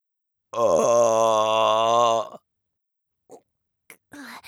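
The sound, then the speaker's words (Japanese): A long, loud voiced burp, droning with a rough tone for nearly two seconds, followed by a few brief, faint vocal noises. “パパたちへの挨拶ザーメンゲップで言っちゃった。”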